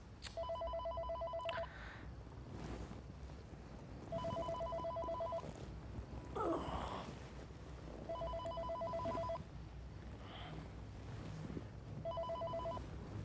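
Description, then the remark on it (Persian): A telephone rings in four evenly spaced bursts, each a bright warbling electronic trill lasting about a second and a half, separated by pauses, over a faint background hum. “خودت جواب بده دیگه، من حال تلفن جواب دادنم ندارم.”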